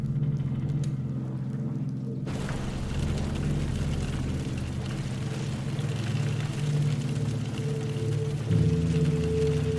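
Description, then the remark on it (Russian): Steady rain patters against a window pane, a dense continuous hiss that starts after a short quiet moment, layered over a low droning hum, with no voices. “смотрит, как дождь стучит по стеклу.”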